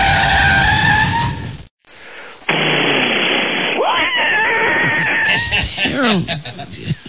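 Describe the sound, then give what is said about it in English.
A loud, high tire screech of a car skidding under hard braking, cut off by a brief pause, then a longer harsh, rasping skid with wavering squeals that fades at the end. “Can you do a car jamming on the brakes? Wait, let me play one for you and then see if you”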